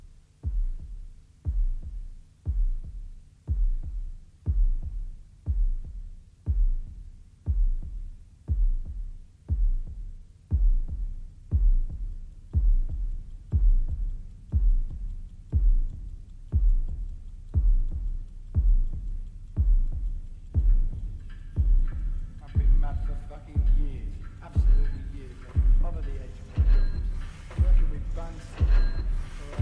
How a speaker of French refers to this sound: Le battement de cœur.